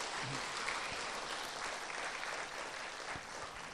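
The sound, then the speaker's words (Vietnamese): Sustained applause from an audience for a teacher, a dense steady clatter of many hands clapping at once, fairly loud and even throughout with no one speaking. “Thì quý vị cho thầy tràng pháo tay thật lớn.”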